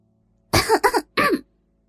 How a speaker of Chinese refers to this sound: 咳嗽了两声，也是在向李娟示意自己来了。